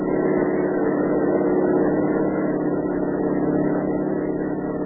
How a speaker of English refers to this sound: Wow. We're doing over 70 and he's walking away from us.